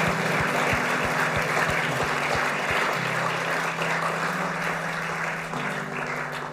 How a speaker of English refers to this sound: Church, shall we give him a clap? Gemeinde, lasst uns einen Applaus geben.